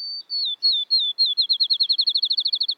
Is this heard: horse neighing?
no